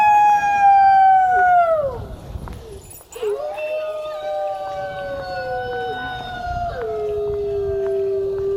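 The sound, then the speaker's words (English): Several people howl like wolves outdoors in the evening, long drawn-out cries that slide downward in pitch and overlap one another. The voices are loud, with a brief break before a second round of howls. “Do you want to say a few words about why you're out here howling tonight?”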